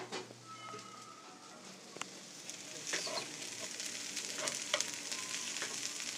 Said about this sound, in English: and now the sound of some very delicious meal stuffs cooking on an open stove.